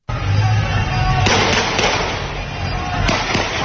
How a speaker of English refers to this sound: Shooting at the crowd. There's hundreds of them. They're running. They're across the street. You hear them scream as they run.